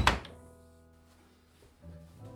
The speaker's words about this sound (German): Mia hört, wie im selben Moment die schwere Tür der Suite hinter ihr ins Schloss fällt